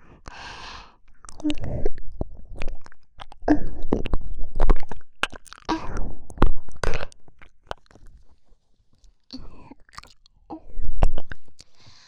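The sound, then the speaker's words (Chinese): Wet mouth sounds with crunchy bites and smacks as someone bites hard on an ear to leave teeth marks, arriving in irregular bursts with soft breaths and sighs between them, intimate. “狠狠地咬一口，在你的耳朵上留下我的牙印。”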